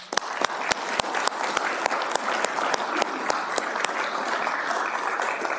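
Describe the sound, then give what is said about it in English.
At a city council meeting, the audience breaks into steady applause for young people after their presentation, many hands clapping in a dense patter with sharper individual claps standing out, holding at an even, moderate level throughout without any voices. “All right, we do owe you some applause.”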